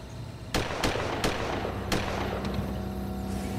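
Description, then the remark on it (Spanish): Four or five sharp gunshots crack out at irregular intervals, fairly loud, over a steady low rumbling background with no voices, heard from a side street. “Holliman dijo que estaba esperando en una calle secundaria que Kelly volviera cuando oyó disparos.”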